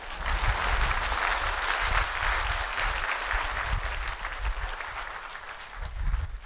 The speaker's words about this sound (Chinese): 不给点掌声吗？